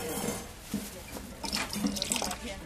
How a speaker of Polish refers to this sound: Anula, dolej do wody do tej naszej psiej miski.